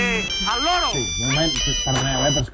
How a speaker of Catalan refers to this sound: Em sona el mòbil. Home, celebrem que s'hagi... El que té, és el …? Sí, s'ha descarregat el politó del … de la pàgina del programa.